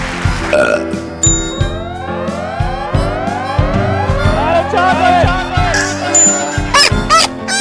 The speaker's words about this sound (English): Let the belching commence!